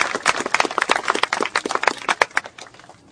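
A community audience breaks into applause for the mother of Oscar Grant, a dense, steady patter of many hands clapping for about three seconds before it starts to thin out and fade at the end.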